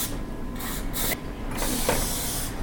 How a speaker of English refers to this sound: So they do stick to the muffin pan a little bit. I've noticed when I have made them before. Just a light kind of even spray as best as you can.